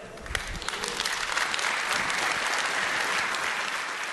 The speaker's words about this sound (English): The reason this is a big deal and the reason all these people are applauding is he now has godlike powers to control the circuit board.